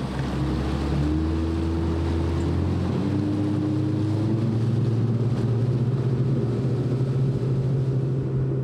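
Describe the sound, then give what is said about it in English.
A motorboat engine drones steadily as the boat pushes off into a channel in the Lower Mississippi River wetlands in early spring, its pitch climbing as it picks up speed, with rushing water and wind noise throughout. No one speaks. “Paul unties our boat, and we push off into the channel.”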